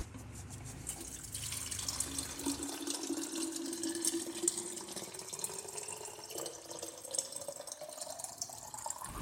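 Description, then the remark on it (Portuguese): Water runs steadily from a tap into a container, being put out for Maritaca, a continuous hissing splash with a rising tone as the vessel fills. Fairly loud, with no one speaking. “A gente vai pôr água pra você.”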